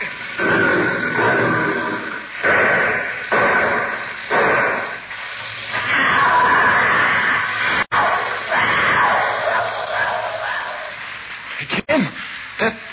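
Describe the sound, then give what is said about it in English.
A tiger screams, loud and harsh, in a string of drawn-out roaring bursts that rise and fall for several seconds, with no voices. “That scream was like nothing human. It wasn't human. That was our tiger.”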